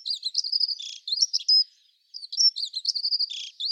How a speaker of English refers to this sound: So where the house sparrow has that really simple song, one note at a time, the dunnock has a song verse which lasts about 4 or 5 seconds.